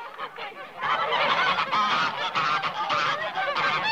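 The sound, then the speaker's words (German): A flock of geese being herded into a house cackles and honks continuously, many overlapping calls forming a loud, busy chorus with no pauses. “Fräulein Ulrike treibt ihre schnatternde Herde in dem Stall, pardon, ins Haus.”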